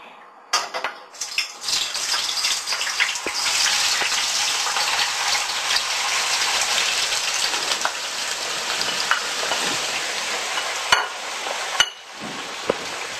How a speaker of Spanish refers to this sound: si vemos que ya salen burbujas es que ya está, y nada, simplemente vamos a ir echando las patatas en el aceite, poco a poco para que no nos salte.